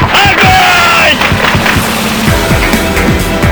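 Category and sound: sound effect, gunfire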